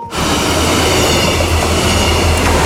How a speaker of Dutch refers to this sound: En voor het eerst in bijna 11 jaar tijd rijden weer treinen tussen Bad Nieuweschans en Leer. Zo klonk dat dus gisteren op de Friesenbrücke. Arriva is begonnen met instructieritten op het Nederlands-Duitse traject.